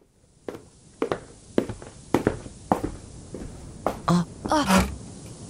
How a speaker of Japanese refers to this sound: 足音に振り返ってみれば、あの人がいた。